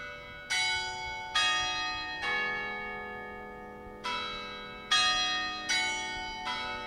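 Church bells in Charleston, South Carolina ring out in a slow, uneven peal, six bright strikes with rich harmonic overtones, each tone lingering and decaying into the next, with no voices present.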